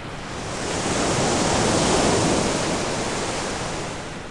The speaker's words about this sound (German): Nach mehreren Tagen kamen sie an die Stelle, wo der Fluss ins Meer mündete. Ein stürmischer Wind wehte, der die Oberfläche des Wassers zu wogenden Wellen auftürmte. Je näher sie kamen, desto deutlicher vernahmen sie das Rauschen der Wellen.